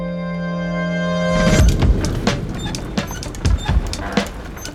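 A horse-drawn cart borrowed from a farmer rumbles along toward Copenhagen, hooves clip-clopping in a loose, steady rhythm, fairly loud, after a brief sustained musical tone fades out at the start.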